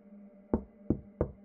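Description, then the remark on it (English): Three firm knocks on a door, evenly spaced about a third of a second apart, clear over a faint steady hum, with no voices. “Amanda didn't even realise she'd started knocking.”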